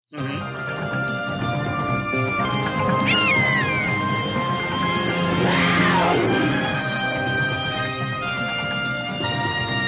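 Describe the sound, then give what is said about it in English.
A TV theme tune plays loud and steady throughout, with dense sustained tones and a couple of sweeping, yowl-like cries rising and falling over the music; no one speaks. “That theme music is amazing. Okay, well, let's listen so we can judge for ourselves.”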